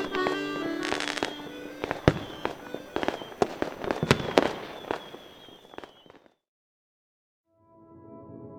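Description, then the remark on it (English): Fireworks, launched at the press of a button, crackle and bang in a rapid, dense barrage, with sharp loud pops, fizzing whistles and crackling bursts for about six seconds before falling silent, then a brief faint rumble returns. “so I could get maximum viewing of the fireworks”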